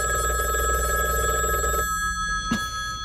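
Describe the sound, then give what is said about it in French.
A telephone rings loudly with a steady electric bell tone for about two seconds, then cuts off, followed by a brief click as if the receiver is picked up; a New Year phone call to a friend. “Certains s'accrochent à la bonne vieille méthode du téléphone pour joindre leurs amis.”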